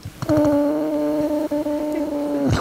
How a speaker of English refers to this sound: Rocket, an elegant male reindeer, spreads out between the first and second rows and spends most of the class making a noise that sounds like snoring?